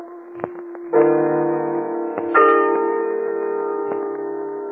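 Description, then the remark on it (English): A gong is struck twice, about a second and a half apart, each blow ringing out loud with a long shimmering sustain, amid a few faint clicks. “He got 20 years privilege taken away from him when he kicked old Buddha's gong.”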